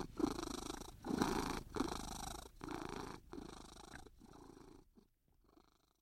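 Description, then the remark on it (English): A cat purring in steady, rumbling pulses, each breath-cycle clearly audible, gradually softening toward the end with a brief pause before resuming faintly. “And I guess I personally think you get a head start in doing that if you've already had your heart cracked wide open by having loved and been loved by a big, fat, black cat.”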